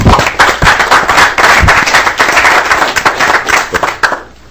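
A group breaks into steady applause for the staff, dense overlapping hand claps sustained at a fairly loud level for about four seconds before quickly tapering off.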